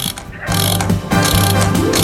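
An alarm clock being set as a timer for a speaker's turn at a meeting, its mechanism giving off a dense, steady ratcheting whir that starts softer and grows louder after the first half second, with no voices.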